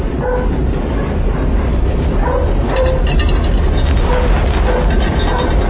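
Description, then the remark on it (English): A subway train rumbles steadily past, a dense, loud, continuous low roar with faint metallic squeals and rattles layered on top, lasting the whole stretch without pause. “Subway.”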